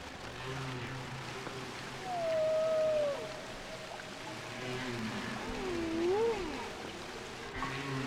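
whale vocalization

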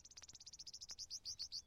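meadowlark song

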